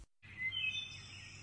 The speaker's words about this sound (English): Chiming in with a did I do it? Call, a little lapwing there was.